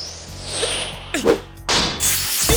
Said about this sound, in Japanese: うわっ、なんだ。 消火器。 そりゃ爆発するわい。しかも学校のだろ。